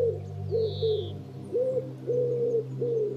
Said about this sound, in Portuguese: Em cima de um dos pinheiros, em redor, estão dois pombos turcazes, quem sabe um casal.